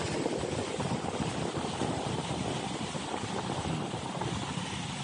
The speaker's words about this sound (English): This makes me calm. Watching boats on the water. Here in the ocean. The symphony of supply chain is moves along.